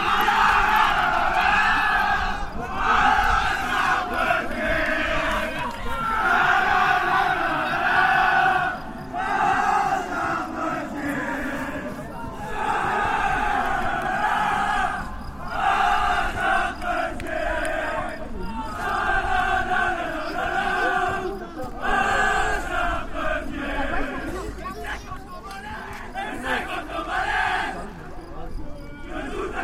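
A group of male football players from Entre-deux-Guiers chants loudly together after the final whistle, celebrating their win and promotion in a steady, rhythmic pattern, with repeated phrases that rise and fall across the whole stretch with no pauses.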